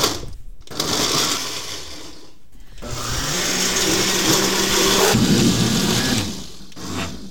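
A blender whirs loudly in two long bursts separated by a brief pause, its motor pitch shifting as chopped tomatoes, onions and peppers churn, on a hot day in Portland, with no talking.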